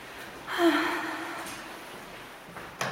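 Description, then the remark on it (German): A breathy sniffle through the nose, fairly loud and drawn out, then quiet before a second short, sharp sniff right at the end. No one speaks. “Entschuldigung, ich schniefe auch schon wieder die ganze Zeit.”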